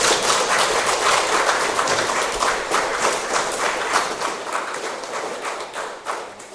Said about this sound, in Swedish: och så hälsar vi de agerande välkomna, var de nu är någonstans. Kanske ger dem en applåd så kanske de kommer in.